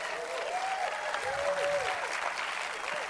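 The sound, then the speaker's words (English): An audience claps steadily, a dense, even wash of applause that holds for a few seconds at moderate loudness, with faint voices and a brief whoop mixed in. “Now, that was not near enough applause or whatever.”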